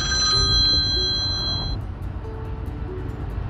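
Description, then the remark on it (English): A cell phone ringtone chimes with bright, steady electronic tones for a couple of seconds, then cuts off, leaving a low rumble of background noise with faint tones. “When you do the program on a cell phone, sometimes the cell phone rings and you have no choice but to answer it.”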